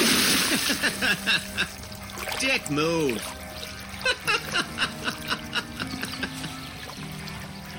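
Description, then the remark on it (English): Water sloshes and splashes in a string of uneven bursts, with brief spurts between, as two people push and shove each other in chest-deep water during a storm, while people talk and call out over the churning. “The two pushed and shoved each other in the chest-deep water for a few minutes until they both looked overhead and saw the clouds darken further as the already raging storm began to grow closer.”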